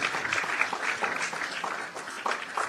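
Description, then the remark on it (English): Steady audience applause for the Bachelor of Pharmacy program at BBUC, a dense crackling wash of claps from many hands holding an even, moderate level throughout with no voices standing out. “Another round of applause for the Bachelor of Pharmacy, a 2+2 professional program that prepares our students to become homegrown pharmacists that will lead in medication preparation and regulation in this country.”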